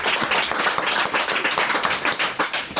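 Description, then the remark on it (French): Loud hand clapping right in front of the microphone during a show recorded before an audience at the L'Autre Monde bookshop, 42 Grande Rue, Avallon, in a dense, rapid patter of sharp slaps that continues steadily for about three seconds, with no voices. “si vous applaudissez devant le micro, vous allez voir, ça va être terrible.”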